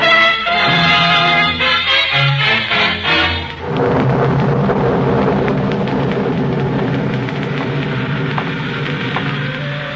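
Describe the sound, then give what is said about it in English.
After a few seconds of droning, tonal sound, a steady, loud, cold rain takes over, hissing and pattering continuously to the end with no voices. “The rain was nasty and cold.”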